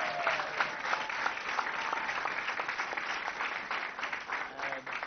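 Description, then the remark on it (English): Steady audience applause for a student medal recipient fills the whole stretch, a dense patter of many hands clapping at moderate volume, with no talking over it. “So, let's still give Megan a round of applause.”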